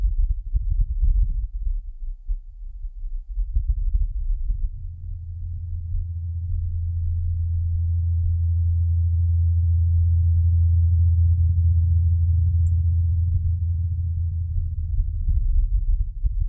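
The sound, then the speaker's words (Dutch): A low, muffled droning hum of a helicopter recorded on Mars holds steady for the whole stretch, with a few soft clicks and bumps near the start and end. No one speaks. “Nou, het valt inderdaad wel op dat het geluid wat doffer is en dat je die helikopter hoort als een soort lage zoom of bromtoon.”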